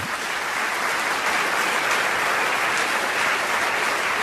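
Steady applause from a crowd, played in as a sound effect, a dense wash of many hands clapping at once, loud and sustained for the whole stretch with no voices on top.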